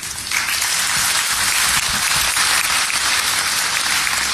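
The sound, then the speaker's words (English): A packed conference room audience gives itself a round of applause on a Sunday afternoon, the last day of the conference: a dense wash of many hands clapping at once, loud and steady for the full few seconds with no voices standing out. “Like, you should all give yourself a round of applause, please.”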